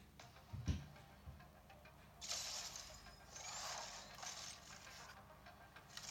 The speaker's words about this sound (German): Du hörst, wie das knackt, ne? Also, wie das klickt von meinem Controller.